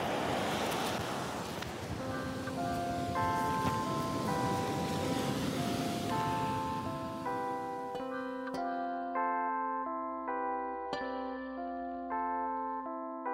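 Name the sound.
sea waves and wind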